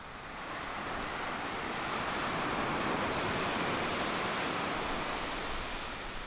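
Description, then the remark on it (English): Steady ocean surf washes in at a beach just metres from the Curious Design Conference, a broad continuous roar of waves breaking on a shore that swells slightly midway and stays loud and full throughout, with no voices. “There might be a beach just metres away, but for 1,400 industry folk from around India and farther afield, the waves are less of an attraction than the Curious Design Conference.”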